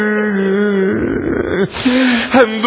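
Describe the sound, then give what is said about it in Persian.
A girl cries and wails, her voice rising in long, loud, quavering tones with a few breaking sobs and sharp pitch slides, with nothing else audible. “دخترم گریه تو قلب منو آتش میزنه.”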